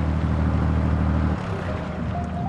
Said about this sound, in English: The only thing I'm formally qualified to do is drive this boat.